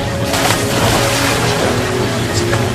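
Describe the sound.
Water rushes steadily down the chute of a children's pool slide in a continuous, fairly loud splashing flow, with faint indistinct voices in the background throughout.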